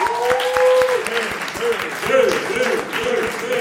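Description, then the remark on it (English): A crowd at Common Pub claps steadily with dense, overlapping hand claps, mixed with voices whooping and cheering throughout. The sound is fairly loud, sustained for several seconds. “I also want y'all to give a round of applause and a sincere thank you to the homie”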